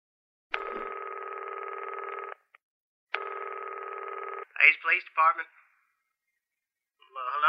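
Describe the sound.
Two long, steady telephone ringback tones sound clearly, separated by a short pause, on a recorded call to the Hayes Police Department in Ashley, Kansas, placed at 9:46 p.m. on August 15, 1952, before a voice comes on the line.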